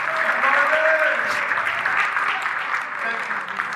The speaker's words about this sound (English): Just give God a clap, a shout, or something. Make a little noise.